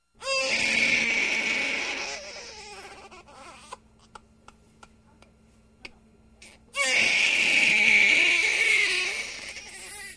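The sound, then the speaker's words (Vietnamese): A baby wails loudly, alone in a remote mountain forest, in two long, strained bursts separated by a quieter pause with faint clicks and sniffles before the crying starts up again. “Đến cốc 10, lão Lầu bỗng nghe tiếng trẻ con khóc.”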